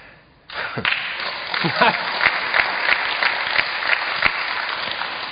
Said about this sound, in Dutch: Ik denk dat dat applaus meer Annette geldt dan mij, maar...